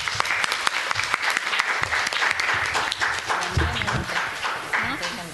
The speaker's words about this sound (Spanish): Y bueno, pues muchas gracias a mis colegas por estar aquí. Les voy a entregar sus constancias. Les pido un aplauso para ellas, por favor.